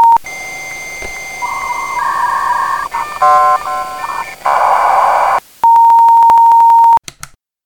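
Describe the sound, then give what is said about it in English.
A string of electronic telephone tones and chirps, then a steady, loud answering machine beep holding for over a second before cutting off, followed by a couple of faint clicks. “Hi, I'm not home right now, but if you leave your name and the time you called after the beep, I'll be sure to get back to you real soon.”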